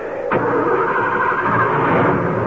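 car engine starting

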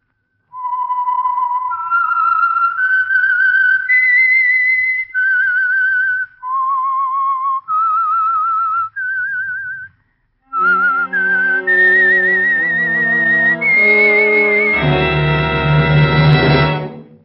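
whistled theme melody

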